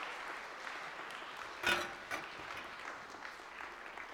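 Steady audience applause fills the whole stretch, a dense crackle of many hands clapping at a moderate distance, with one sharper, louder clap standing out midway. No one speaks.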